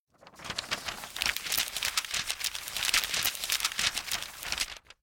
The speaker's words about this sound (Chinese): 书翻页的声音